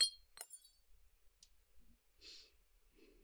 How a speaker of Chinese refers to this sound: 不好意思啊。怎么，我又不是故意的，这酒杯碎了就碎了，难道你一个初入妖都的人类还不接受我的道歉？